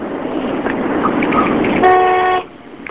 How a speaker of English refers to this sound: Would you honk your horn for us, please?